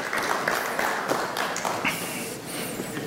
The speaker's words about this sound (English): Anyway, everybody clap just to make me feel better, okay? Yeah, thank you very much.